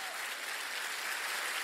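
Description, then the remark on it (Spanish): An audience applauds the Lord together, a steady wash of many hands clapping at an even, moderate loudness throughout the short moment, with no voices rising above it. “Y dale un aplauso al Señor.”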